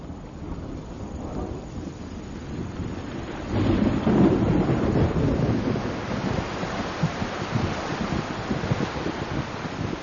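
Steady rain hisses through a summer storm in Great Smoky Mountains National Park, USA, while low thunder rolls in, swelling into a louder, rumbling peak midway before settling back into a continuous downpour with low grumbles.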